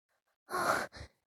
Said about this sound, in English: Oh, you're panting so much.